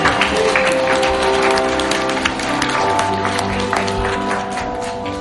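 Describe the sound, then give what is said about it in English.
A large group claps for God steadily and loudly, a dense continuous wash of applause from many hands, with sustained musical tones humming underneath. “We can clap. Let's clap for God.”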